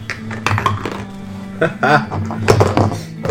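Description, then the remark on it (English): Dice clatter and tumble across a table in a few quick bursts of sharp clicks as players roll for initiative in a tabletop game, with murmuring voices underneath and a low steady hum. “Alright, I've actually found the best dice set to use for audio recording. They sound great.”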